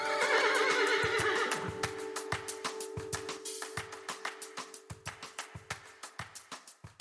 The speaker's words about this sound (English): So we'll deal with that now. Well, in just a moment, after the horse noise.